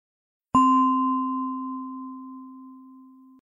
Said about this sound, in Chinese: 好，当你听到钟声时，轻轻睁开眼睛